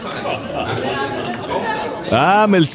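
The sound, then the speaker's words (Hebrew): Café ambience recorded with a planted microphone at Café Menara: a steady murmur of overlapping voices with light clinks of dishes and glassware scattered through, then one voice rises louder over the chatter at the end. “ואנחנו פשוט הצלחנו לשתול מיקרופון באמצעות מעוז הבדי והמפיקים שלנו כמובן, וזה מה שהצלחנו לשמוע שם”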